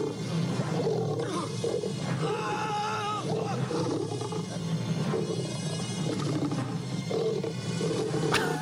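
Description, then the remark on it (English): Deep, rumbling roars and snarls from a lion being kicked in the face by a man in a film, sustained and loud across the whole stretch, with harsh growling bursts as it fights. “He's really kicking that lion in the face.”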